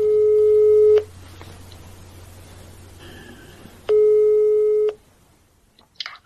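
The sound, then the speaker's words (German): A telephone ringback tone after a phone number is dialed rings twice, each steady one-second burst separated by a few seconds of faint line hiss, followed by soft clicks as the call connects. “Also setze ich meinen ersten Plan um und wähle eine Telefonnummer.”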